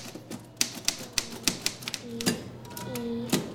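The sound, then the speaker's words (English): Keys of an antique typewriter at a makerspace clack one after another in an irregular rhythm, sharp, with a faint murmur of voices and a brief tonal hum in the background. “There was a young girl, maybe 8 or 10 years old, on the typewriter, having an absolute ball, and she said, "Mommy, it's like a computer and a printer all in one," which just reminded me how far we've come.”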